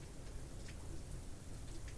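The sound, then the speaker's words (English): Steady rain falls continuously outdoors, a dense even hiss of drops pattering on surfaces, moderately loud, with no voices or other distinct sounds. “Listen to the rain, sound of the wind blowing through the trees.”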